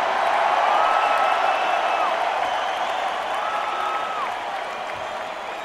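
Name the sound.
audience applauding and cheering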